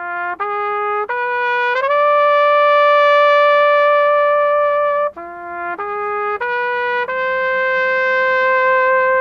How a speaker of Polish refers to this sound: we współpracy ze Stowarzyszeniem Anthill właśnie pojawił się pomysł, aby muzyka trąbki, bo hejnał przecież odgrywany na trąbce, aby ta muzyka trąbki też rozbrzmiewała z wieży trynitarskiej w każdą niedzielę.